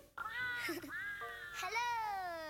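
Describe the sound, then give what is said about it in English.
A high, squeaky, pitch-shifted voice plays back from the Talking Tom app in a short chipmunk-like burst, its tone sliding up and down. It is fairly loud, with no other sounds around it. “So it's a Talking Tom app, for those of you that know what Talking Tom is.”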